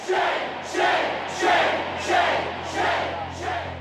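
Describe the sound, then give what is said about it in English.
A large protest crowd in downtown Madison chants in unison, loud rhythmic bursts of many voices repeating roughly every three-quarters of a second, with a steady low hum beneath. “Every day you hear crowds chanting.”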